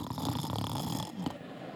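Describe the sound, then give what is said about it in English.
A voice imitates a person snoring: one drawn-out, rasping snore, fairly loud, with a short snort near the end and no other talk. “He's never snoring.”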